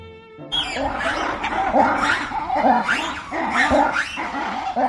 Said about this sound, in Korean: 각종 동물 소리로 시끌벅적한 이곳은 버지니아주 비엔나에 있는 로얼즈 주파리입니다. 이곳은 이름대로 동물원 주와 자동차를 타고 다니며 야생동물을 구경하는 사파리를 동시에 경험할 수 있는 곳인데요.